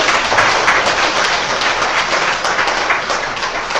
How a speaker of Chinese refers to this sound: 好，最后我们再次用热烈的掌声感谢这位老师。